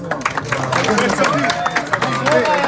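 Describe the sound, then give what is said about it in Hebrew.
A crowd claps in a dense, steady patter of many hands while voices talk and call out over the applause throughout. “תראו, אני רוצה כפיים פה ליהודי הזה.”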